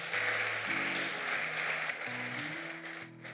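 A crowd claps and cheers steadily for a few seconds. Sustained low keyboard or organ chords shift underneath the loud, continuous applause, and no one speaks.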